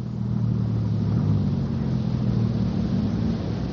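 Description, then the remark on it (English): A car engine hums steadily in a low, droning pitch as the car comes up a hill, holding a constant loudness for a few seconds with a slight shift in tone partway through. No voices. “The car coming up the hill.”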